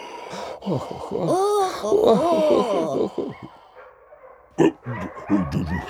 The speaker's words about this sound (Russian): Что такое? Ай, собачки! Сюда, сюда, собачки!